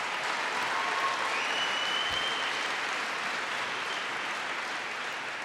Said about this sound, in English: Please give him a big round of applause.